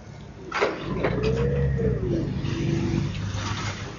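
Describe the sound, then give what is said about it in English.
Forklift trucks rumble and whine as they move from warehouse to loading bay in the Brazilian port of Santos, with a rising and falling motor tone over a steady industrial hum and clatter, no one speaking. “Forklift trucks trundling from warehouse to loading bay in the big Brazilian port of Santos make visible right in front of any visitor the new trade routes that will define the 21st century.”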